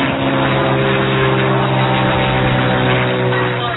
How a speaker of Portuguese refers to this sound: Quando estava lá em cima, lá no alto, o motor do avião parou de funcionar.